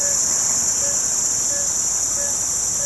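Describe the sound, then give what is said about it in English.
A dense nighttime chorus of insects and frogs in a tropical rainforest at a remote campsite in Borneo, heard after the camp generator is turned off: a constant high, shrill droning wall of sound, with faint, evenly spaced tonal frog calls repeating underneath. No voices. “And then suddenly the sort of cacophony of the tropical forest at night hits you.”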